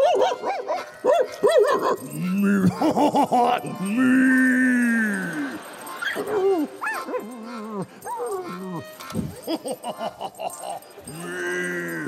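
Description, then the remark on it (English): A dog barks in short bursts and lets out long, wavering whimpers and whines as it tries to make a cow that broke out of its stall go back, alternating between yelps and drawn-out cries, fairly loud and with no one speaking. “one of the French cows breaks out of its stall, and your dog, old Shep, tries to make her go back”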